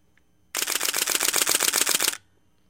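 A camera shutter fires in a rapid continuous burst at 8 frames per second, roughly a dozen crisp mechanical clicks in quick, even succession over under two seconds, clear with no one speaking.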